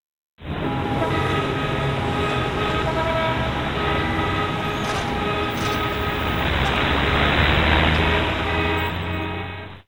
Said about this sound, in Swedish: På busshållsplatsen. Lyssna nu.